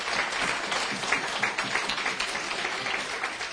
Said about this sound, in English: Let's give her a big hand of applause.